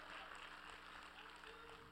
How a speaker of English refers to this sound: If you agree, give the Lord a clap.